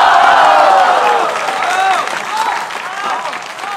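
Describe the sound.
Steady, dense applause from a crowd, with voices calling out over the clapping throughout, slightly louder at the start and holding strong to the end.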